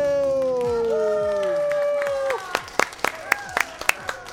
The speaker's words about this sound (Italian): Dalla regia, applausi dalla regia, occhio.